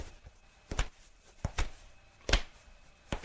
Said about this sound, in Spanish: A él, como va escuchando todos los llantos de la gente y los ruidos, escucha pasos viniendo a su celda.